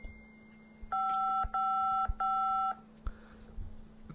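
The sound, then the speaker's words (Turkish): A phone rings with an incoming call: three steady electronic tone bursts of roughly half a second each, separated by brief gaps, clear, followed by a few soft clicks and handling noises as the call is answered. “Arıyor açıyorum. Dur arıyor.”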